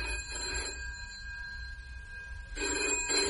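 telephone bell ringing

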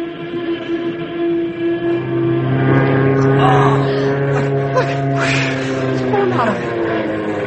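airplane engine roaring

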